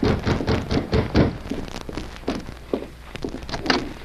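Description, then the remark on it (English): A series of hollow knocks on a door in the evening, loud at first and then a little softer and more scattered, with no voices. “It was the following evening when Susie Davis answered a knock on the door.”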